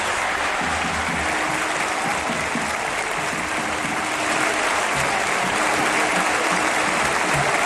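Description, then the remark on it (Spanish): A huge stadium crowd, on its feet in the 9th minute of an Athletic Bilbao match, applauds footballer Williams without pause, thousands of claps merging into a dense, steady roar that swells slightly louder toward the end. No one speaks over it. “Bueno, en el minuto 9, de hecho, todo el estadio se ha puesto en pie y ha hecho esto, aplaudir así a Williams.”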